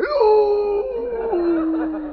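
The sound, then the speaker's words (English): A person imitates how a real wolf howls: one long, loud, sustained wail that rises, then slides down in steps to a steady lower pitch, heard alone for about two seconds. “Here's how a real wolf goes.”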